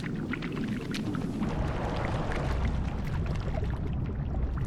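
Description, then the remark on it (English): Steady wet squelching as water is forced through the small holes of an old-fashioned juicer pushed down on top of an orange, used for little baby Dory's up and down movements: a dense stream of little gurgles and splutters at an even level throughout, with no voices. “one of those old-fashioned juicers that you just put on top of an orange and push down.”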